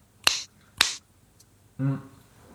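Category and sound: human body sound, finger snapping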